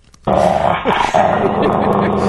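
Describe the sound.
A person voices a harsh, snarling growl like an angry dog, loud, starting abruptly and rumbling on continuously for about two seconds with a brief catch midway.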